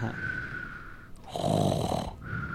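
A bear snoring, heard by riders in a log on the way up just before the Laughing Place; it is Rufus, one of the Jamboree bears, in Creature Country: one long, deep, rumbling snore rises and fades in the middle, set against a steady high-pitched background hum.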